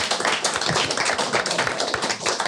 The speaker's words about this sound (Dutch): Dus we rennen het helemaal met geweldige vrijwilligers. Even een applaus.